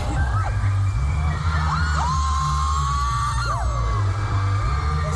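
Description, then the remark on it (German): A crowd of some 60,000 fans in front of a huge LED screen, heard from a bridge, cheers, shouts and whoops loudly. Under the voices runs a continuous, heavy low rumble of fireworks booming in the background, with rising and falling voices piercing through the steady roar. “Wie man noch das Feuerwerk im Hintergrund hört.”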